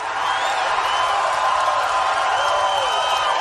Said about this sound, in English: Look, I will acknowledge that's pretty bizarre to hear a huge crowd cheer for a reporter having been body slammed.